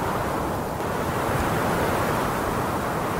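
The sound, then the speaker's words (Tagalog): A strong, steady rush of wind roars across the whole moment, loud, with a dense gusting hiss that swells slightly partway through as the wind grows stronger, leaves fly about and the air turns cooler. No voices are present. “nakaramdam si Tala ng paglakas ng hangin sa paligid. Nagliliparan ng mga dahon at lumamig ang simoy ng hangin”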